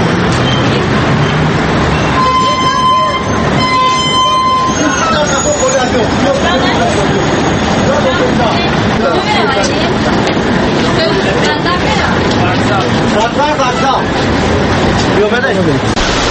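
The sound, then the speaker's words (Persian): Inside a crowded city bus where passengers are interviewed about reading books: a steady, loud rumble of engine and road noise under a constant murmur of many voices, with a brief repeated electronic beeping near the start. “ما طور میبینیم در همین داخل همین اتوبوس تقریبا در دست یک نفر کتاب نیست.”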